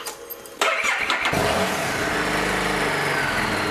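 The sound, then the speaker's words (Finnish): After a brief quiet moment, a motorcycle engine abruptly cranks and catches with a loud burst, then settles into a steady, rumbling idle with a low, even drone and no voices; its sound is likened to an electric sewing machine. “Tässä on ihan eri sound. Tämä kuulostaa sähkösingeriltä ja siitä mä en pidä.”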